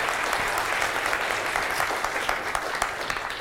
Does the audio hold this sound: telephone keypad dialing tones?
no